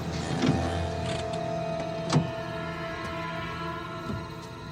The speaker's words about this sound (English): Later that night at the stockyards, Frank pulls up.